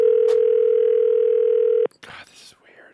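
A steady, loud telephone dial tone, as someone starts calling a list of phone numbers, hums for nearly two seconds, then cuts off abruptly, followed by a brief burst of clattering noise and faint muffled sounds.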